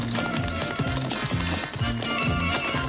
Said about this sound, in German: Und jetzt zum ersten Sketchgast ein besonderer in der Tat, weil er ganz individuell in der Pferdekutsche naht.